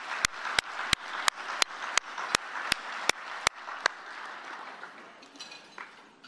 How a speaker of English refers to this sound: I just want to have a round of applause for your leadership.